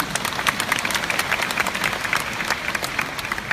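A crowd claps steadily, dense overlapping handclaps forming a continuous, moderately loud patter of applause with no voices on top.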